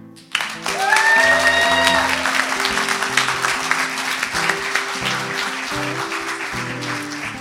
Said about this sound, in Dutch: Zijn ze welkom? Ja. Kunnen we dat laten horen in een applaus of zo?